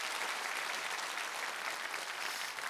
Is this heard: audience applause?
yes